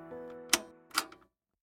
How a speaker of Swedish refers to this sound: när den sjunkit in i väggen så djupt som det går så hör Vilgot ett klick